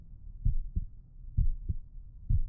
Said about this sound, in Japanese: 前にもこうして、僕ちゃんに心臓の音、聞かせてあげたよね。